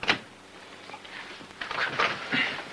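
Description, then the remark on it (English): A sharp knock-like click, then a few seconds of creaky, rasping wood sounds as a small wooden locker door swings open in an employee lounge, with no voices. “As he opens his wooden locker, he stops at the sight of a red carnation on the top shelf in a glass of water.”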